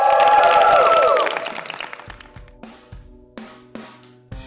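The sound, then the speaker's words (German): A dense burst of audience applause at the end of an interview, mixed with some cheering, fills the first second before quickly fading into a few sparse, ringing musical hits. “Und bitte für einen großen Applaus.”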